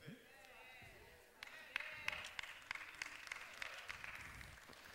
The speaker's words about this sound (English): Thank you for that faith-filled applause.